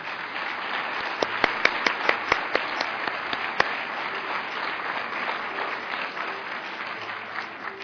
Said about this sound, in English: Okay, so let's have a round of applause for all of the IHS Award recipients.